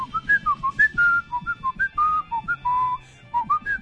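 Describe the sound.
A person whistles the melody a pet cockatiel used to sing, a quick series of short, bright chirping notes that hop up and down in pitch, with a few longer held tones.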